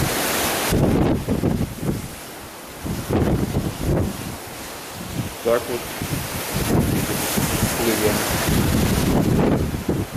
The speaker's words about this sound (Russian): Сейчас, наверное, будет ветер шуметь. Ну-ка, давайте попробуем выглянуть.